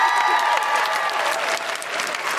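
An audience applauds loudly and steadily, a dense wash of clapping hands that holds at an even level throughout with no voices standing out.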